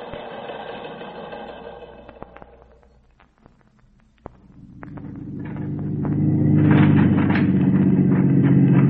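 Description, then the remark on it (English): A four-wheel drive car engine hums steadily, dips to near quiet for a moment, then returns as a heavier, louder low rumble that grinds on to the end with no talking. “Anything they've got with a four-wheel drive.”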